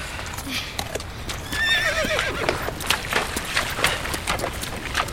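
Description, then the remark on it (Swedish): A horse whinnies with a wavering, rising-and-falling neigh while hooves clip-clop in a steady series of sharp knocks as the horses are led down to a river to drink, over a constant rushing background. “Hästarna behövde dricka, så vi ledde ner dem till floden.”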